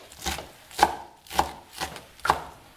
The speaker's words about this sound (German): So, die Petersilie wird jetzt professionell gehackt